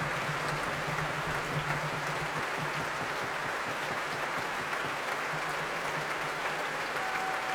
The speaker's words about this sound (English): The cheers you can hear as Zachary Oromo brings each section of his orchestra to their feet. And not surprisingly, the loudest did go to those two timpani players I mentioned earlier.